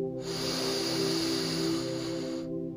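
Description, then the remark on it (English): A slow, steady inhalation during a guided meditation, lasting a couple of seconds. It is a breathy, airy hiss of even loudness that starts and stops fairly abruptly, with a soft low tonal hum beneath it and no talking. “Breathing in.”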